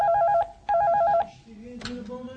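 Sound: telephone ringing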